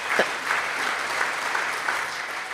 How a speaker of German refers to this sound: Ein bisschen Applaus muss sein